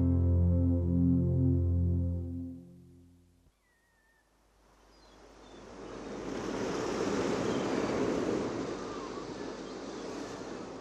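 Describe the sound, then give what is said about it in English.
Sea waves wash onto the shore, a broad hissing roar that swells and then holds steady, following a few seconds of low droning hum that cuts off abruptly. “I've never seen the sea before.”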